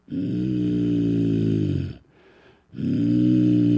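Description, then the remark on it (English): A person imitates an animal's growl with two long, rough, low-pitched voiced growls separated by a short breath. The growls are loud, with no other talking. “She had this mean look on her face, growling like an animal.”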